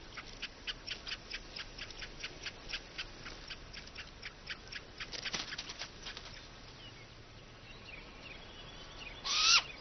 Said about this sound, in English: Early summer, and great grey owl chicks are fledging. Adults can only raise young here in years when the seasonal vole crop is big enough to support them.